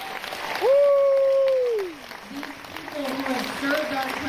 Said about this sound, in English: can we get a round of applause for our veterans? Yeah.